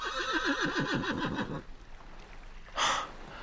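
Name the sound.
horse neighing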